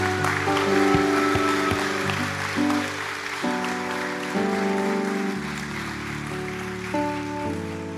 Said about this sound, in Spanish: Quiero que damos un aplauso a todos estos jóvenes.